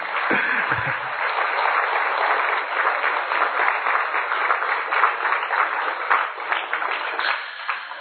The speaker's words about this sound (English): So without any more from me, I'd like to invite Sister Jyanti up onto the stage. Yes, please, a round of applause.